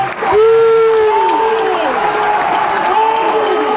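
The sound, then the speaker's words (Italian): An opera audience at the Teatro Reggio whistles and boos in protest at a performance of Il trovatore: several long, sliding tones rise and fall over a constant loud roar of crowd noise, overlapping for the whole stretch. “Sentiamo anche i fischi del Teatro Reggio.”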